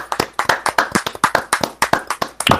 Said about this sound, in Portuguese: O Dolphins enfrentou o Jets, 26-10, primeira vitória do Dolphins. Vamos aplaudir. Parabéns a Dan Gase.